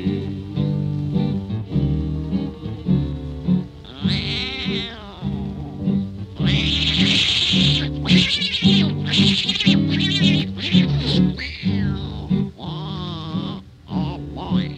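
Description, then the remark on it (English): A voice imitates a cat fight started by an old tomcat, with drawn-out wavering yowls and harsh, strained cries rising and falling for about fifteen seconds, with only brief pauses. “That old tomcat started a fight, and this is the way it all did sound to me.”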